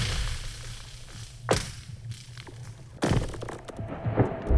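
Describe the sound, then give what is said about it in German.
Ice on a frozen lake cracks as it moves, with two sharp, ringing snaps that sweep downward in pitch, over a low steady rumble and faint hiss, followed by smaller creaks and pops. “Es zischt, knackst und kracht. Das Eis bewegt sich.”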